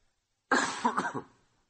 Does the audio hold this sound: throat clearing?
yes